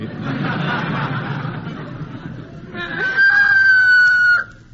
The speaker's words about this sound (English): How come that rooster's crowing at this time of day, Wally? He was out half the night with an old hen.